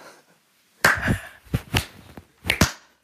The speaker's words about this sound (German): So, das ist, ich würde jetzt gerne den Slow Clap starten.